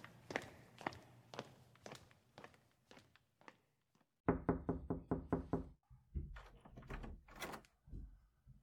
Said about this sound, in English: Okay, let's try knocking this time.